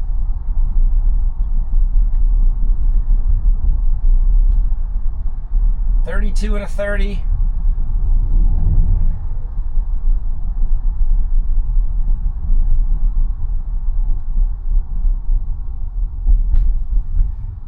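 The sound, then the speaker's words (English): Steady low road rumble from inside a moving car driving itself as the tires roll over manhole covers, with a couple of dull thumps breaking through the constant drone and a brief tonal whine midway. “Definitely driving over those manhole covers, so it's not second-guessing manhole covers”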